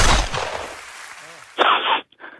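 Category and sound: sound effect, gunshot sound effect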